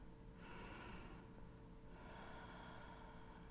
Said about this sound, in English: Listen to my breathing.